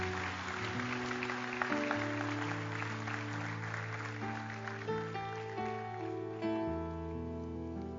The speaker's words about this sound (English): Let's give these folks a big, big hand clap as they're coming.